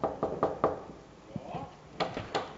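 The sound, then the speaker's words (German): Three quick raps on a door to a props-making room, a short pause with faint murmuring, then two more firm, crisp knocks. “Und jetzt stehe ich vor einer Tür, die ich glaube nicht einmal angeschrieben haben müsste. Und ich würde wissen, was da innen ist. Mal klopfen.”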